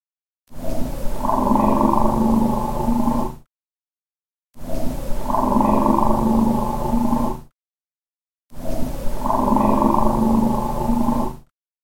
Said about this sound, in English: As I said, we left our recorder at Site 7 overnight. We captured a lot of these sounds, including this possible EVP. There's car noise in the background, but to me it sounds like someone whispering, maybe.